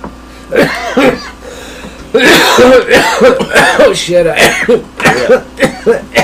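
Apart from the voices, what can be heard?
coughing fit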